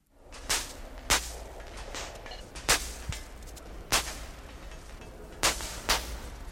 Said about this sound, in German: Es sind Tropfen, die auf der heißen Stahlplatte zischend verdampfen. Wieder stammt das Wasser aus dem Leichenschauhaus. Plancha, Platte, heißt die Installation.